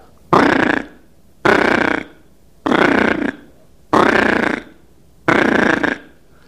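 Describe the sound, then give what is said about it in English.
Five loud, raspy trilling bursts, each about half a second, repeat at an even pace with short silent gaps. They are an imitation of the rolling trill call of diving ducks such as redheads, canvasbacks and bluebills. “But all the divers have kind of a trill, and it'll sound similar to this.”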